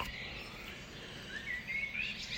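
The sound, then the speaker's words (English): Faint birds chirp outside in the early morning against a soft, steady background hush, with a few thin, high tweets rising near the end. No one speaks. “Hope you can hear the birds.”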